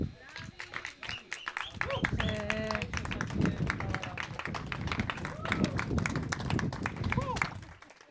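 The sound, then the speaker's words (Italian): A group bursts into sustained, loud applause shortly after a total solar eclipse ends, dense rapid clapping lasting several seconds, with excited voices calling out and chattering over it. “Poco dopo c'è stato un grande applauso.”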